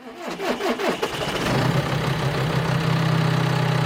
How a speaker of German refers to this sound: Sein grün-gelber Traktor mit der angehängten Pflanzenschutzspritze hält auf dem Weizenfeld alleine die Spur.